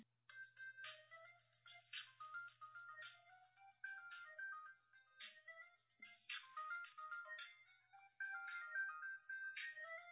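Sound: cell phone ringtone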